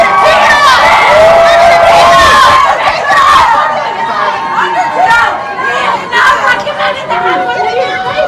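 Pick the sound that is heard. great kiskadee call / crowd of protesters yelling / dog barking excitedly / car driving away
crowd of protesters yelling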